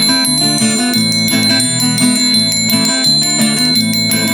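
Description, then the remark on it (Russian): Bells of a white church bell tower ring an evening chime in a steady, overlapping peal, strikes landing about every half second over a sustained, shimmering hum of lingering tones. Loud, with no voices. “И вознесясь над полем, видна со всех сторон, белеет колокольня вечерний перезвон.”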